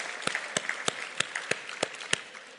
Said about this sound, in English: We simply could not do this without the help of our hosts, Rice University, and our major sponsors. Yes, let's give them applause. Absolutely. Thank you, Rice University.